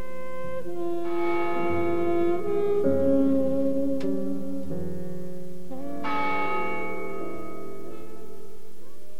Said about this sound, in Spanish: El 2 de julio de 1961, las campanas doblaron por él.